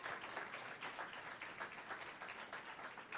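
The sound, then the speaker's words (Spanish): An audience at a Spanish-language sermon breaks into steady applause, many hands clapping together in a dense, continuous crackle that holds an even loudness throughout with no voices standing out. “Y eso vale un aplauso.”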